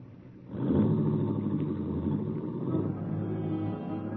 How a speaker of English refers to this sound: You watch Helen's car slip quietly down the road.